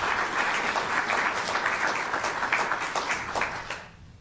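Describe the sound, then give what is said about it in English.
An audience at an evening symposium breaks into sustained applause for a group of local officials and community representatives, dense overlapping claps at steady volume for several seconds before tapering off near the end. “Please give all of these folks a round of applause.”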